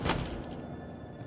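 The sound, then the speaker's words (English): A sliding mirrored closet door shuts with a single soft thud, followed by a faint rumbling hum that fades out. No voices are heard. “She opens the closet and puts her clutch purse onto the shelf, then closes the sliding mirrored doors.”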